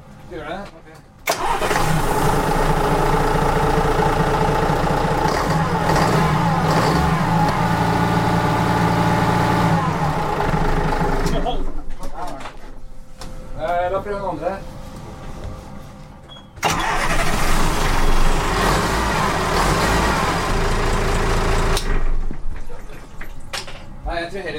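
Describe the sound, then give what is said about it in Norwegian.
A boat's port engine, started with the key, runs loud at a high idle, its steady drone rising as it revs, dipping briefly, then surging back up, with voices talking over it. “Du hører hva høy tomgangen er, da. Ja. Ta rusen litt, da.”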